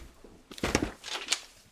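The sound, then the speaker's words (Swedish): A few soft footsteps climb a small creaking wooden staircase in an old apartment building in the Polish countryside, with faint squeaks and thuds, quiet and unhurried, no voices. “Går upp för en liten knarrande trätrappa.”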